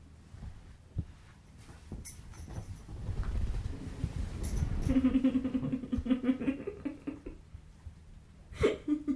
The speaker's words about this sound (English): I'm gonna sneeze, so hang on. Bless you in advance. Thank you in advance.